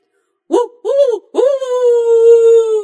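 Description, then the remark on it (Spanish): A small dog named Fiel whimpers in reply: two short, arching whines followed by a longer, drawn-out whine that holds its high pitch and sags slightly at the end, with no talking. “Contestó el perrito.”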